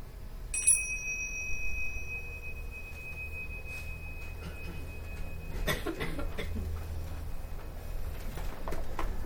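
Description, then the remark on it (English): A meditation bell is struck once to end a meditation, its bright high tone ringing out and slowly fading over a few seconds, followed by quiet room rumble and faint rustling movement. “And when I ring the bells, we can end the meditation.”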